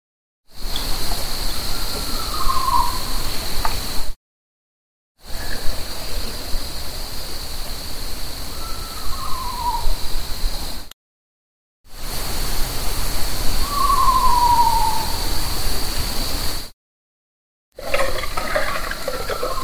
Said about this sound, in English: So that's that owl or something, right? Yeah, it's close as I can get to what it is. It's definitely not a coyote.